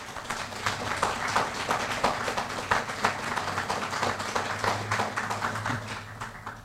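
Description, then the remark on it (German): An audience in Mönchengladbach applauds steadily for several seconds to congratulate a man on bringing modern art to the citizens, a dense wash of many hands clapping with sharp irregular claps standing out, fairly loud and sustained without any talking. “Applaus.”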